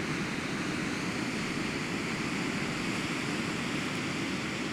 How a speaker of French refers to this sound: Une vaste étendue d'eau gris-bleu qui se perd dans l'horizon blanc. La réverbération du roulement métallique et hypnotique des vagues semble déchirer l'atmosphère.